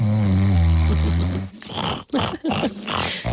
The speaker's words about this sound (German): Schnarchen, dieses akustische Grauen, das klingt, als würde ein kaputtes Laubgebläse neben einem schlafen.